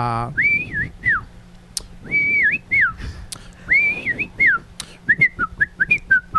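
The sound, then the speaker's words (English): A person whistles a jaunty march melody from the film Bridge on the River Kwai, clear and fairly loud, with bouncy rising and falling phrases and quick repeated notes at the end, over faint background noise. “You guys know that one? It's Bridge on the River Kwai.”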